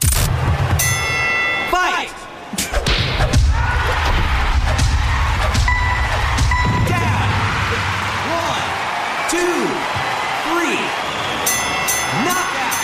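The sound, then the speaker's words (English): Wii Sports boxing sound effects: heavy punch thuds and impacts over a constant roar of crowd noise, with bright ringing bell-like tones near the start and end and short rising-falling whoops throughout. “All right, we move on to the top three for Dave Ranks, the sounds of different games in Wii Sports, and it is, of course, boxing.”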